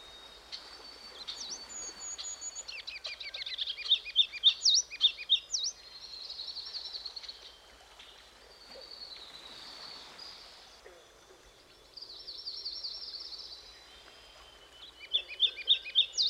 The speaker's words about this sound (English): That must be the ruby-crowned kinglet.